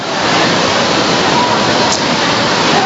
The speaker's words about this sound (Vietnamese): Vào trong mưa to rồi, hắt rồi, lẹ lên, chạy nhanh lên.